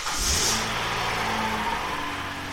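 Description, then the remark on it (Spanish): A getaway car's engine is started: it turns over with a brief burst of noise, then settles into a steady rev with a droning hum, continuing without any talking. “Posteriormente, abandonó su bolsa con el dinero robado, entró en el carro y puso en marcha el motor.”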